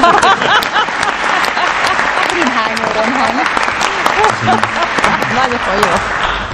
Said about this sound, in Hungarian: Ez a név sok volt az én művész agyamnak, szeretnék kérni egy nagy tapsot magamnak.